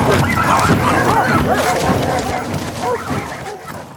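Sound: dogs barking and yipping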